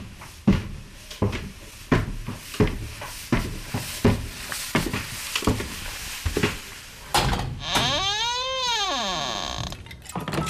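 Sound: door opening sound effect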